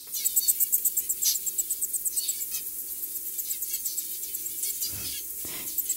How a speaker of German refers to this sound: Und es gibt einige Singvögel, die machen was ganz Ähnliches. Zebrafinken singen für ihre Embryos, wenn die noch im Ei sind, um sie auf die Welt vorzubereiten. Und das klingt dann so.